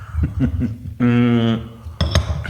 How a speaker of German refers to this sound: Okay, dann lass uns mal ganz kurz hier anstoßen. Runde 2, jetzt haben wir hier Kaffee ganz stilvoll. Cheers. Cheers.